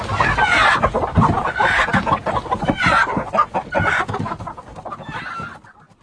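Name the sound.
hen clucking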